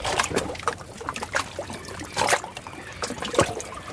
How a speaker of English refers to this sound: just sitting here listening to the waves and just watching them go by, it's just memorising and it's so relaxing.